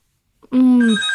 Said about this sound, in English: Hang on, I'm getting a phone call. Hang on a second.